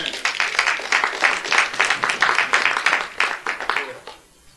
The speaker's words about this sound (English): Give the word a hand clap of praise. Amen.